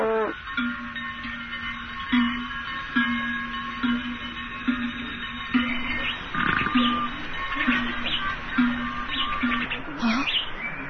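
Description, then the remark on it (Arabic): Busy, high chirping fills the scene continuously, with a steady low hum beneath and occasional rustling movement; the calls sound layered, like several birds twittering together, gathered over a place in the sand where water has appeared. “شكرا لك يا ربي على نعمة الماء، وأصوات هذه الطيور تؤنسني.”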